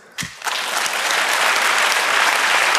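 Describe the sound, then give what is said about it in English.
A burst of applause from the audience at a talk, clapping to vote for hearing about physics, starts abruptly and holds steady as a dense, even patter of many hands clapping, fairly loud throughout with no voices standing out. “So, by applause, do you want to hear about physics?”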